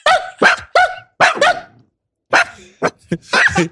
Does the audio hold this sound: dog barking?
yes